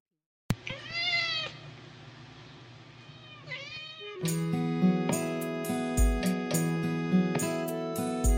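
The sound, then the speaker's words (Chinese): A cat's strained, wailing cry, actually a scream edited to sound like a meow, rings out twice, loud, as the intro of a song; a rhythmic band-style music intro then kicks in underneath and carries on. “那声猫的叫声其实是一声惨叫，让我修了一下变成了那个东西。”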